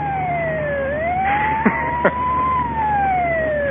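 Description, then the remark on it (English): An ambulance siren wails steadily, its pitch sliding down then slowly rising again over the hum of traffic, with two brief thuds partway through. No one speaks. “You know, that's the fourth ambulance in the last half hour.”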